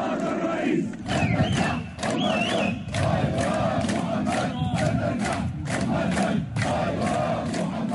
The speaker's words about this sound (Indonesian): Militan melepaskan tembakan ke udara, sementara puluhan ribu orang turun ke jalan-jalan sambil berseru Allahu Akbar.